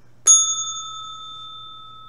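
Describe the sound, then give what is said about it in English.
A single bright bell strike rings out clearly, its metallic tone lingering and slowly fading over a couple of seconds, with no voices and only a faint low hum underneath. “And I'll see you at the bell.”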